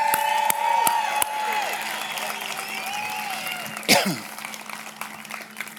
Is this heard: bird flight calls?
no